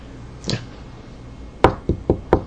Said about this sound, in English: Yeah, he's knocking on the wooden parts of the tent. Oh, okay. The little frame, the pole in the center there.